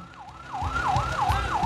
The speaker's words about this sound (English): When I hear the ambulance sound, I get people out of the way. I tell them that there is a very serious injury.